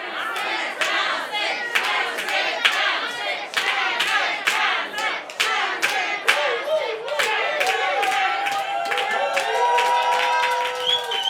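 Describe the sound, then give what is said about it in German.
A crowd of spectators cheers on runners in a race, shouting excitedly, with repeated claps and whistles cutting through a dense, continuous roar of voices that stays loud throughout. “Die Zuschauer feuerten sie an.”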